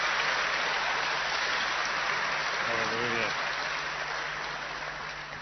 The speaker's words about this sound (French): On peut l'applaudir aussi dans le Seigneur.